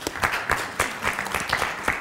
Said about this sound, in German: Ein Applaus für meinen Retter, bitte.